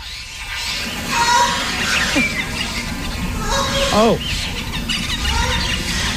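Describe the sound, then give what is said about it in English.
Turtles making mating squeals: a few high, wavering cries that bend up and down in pitch, rising over a steady rough background hiss, with the loudest squeal midway through. “Oh, and it's a turtle.”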